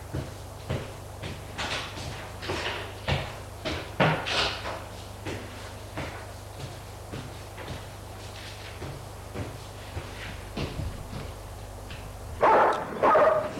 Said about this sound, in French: Malheureusement, à peine sorti de la maison, les chiens leur courent après et se mettent à aboyer d'une façon menaçante, surtout sur Adrien.